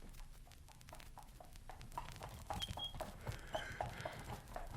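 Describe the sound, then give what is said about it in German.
A donkey's hooves clip-clop steadily on a hard surface at a walking pace, fairly soft, with a faint low rumble of background noise and no talking. “So froh, dass Sie meinen Esel ungeschoren ließen. Nicht wahr, mein Alter?”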